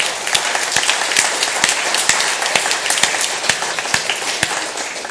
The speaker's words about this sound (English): And if there's any of the kids that were there want to stand up, I will applaud them once again. Let's do that. Our leaf rakers from last week, if you could stand, please, and let's recognize them.